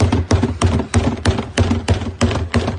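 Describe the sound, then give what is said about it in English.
Loud, steady banging of people pounding on a door, about nine hard knocks in a quick even rhythm, continuous, with no voices. “That's them banging on the door right now.”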